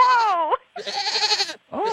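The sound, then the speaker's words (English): A person imitates a goat's bleat in three loud, wavering vocal bursts with brief pauses between them, the middle one longer and more nasal. “It's a goat.”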